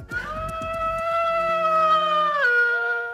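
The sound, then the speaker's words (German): A shepherd's mobile phone ringtone of a wolf howling, on an alp in Ticino, Switzerland: one long, loud, sustained howl that holds steady and then slides down in pitch near the end, with a faint low rumble at the start and no voices. “So heult das Handy eines Schafhirten.”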